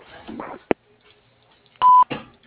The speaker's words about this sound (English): please leave a name and phone number after the beep.